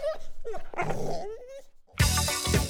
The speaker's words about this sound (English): young pit bulls on choker chains, letting the dogs get within inches of tearing each other apart.